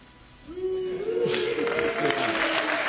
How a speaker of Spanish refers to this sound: Ruido pitos. Agora há palmas. ¿A qué pitos es?